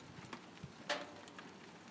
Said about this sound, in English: It was raining all afternoon, but then it stopped for a short while and it started again.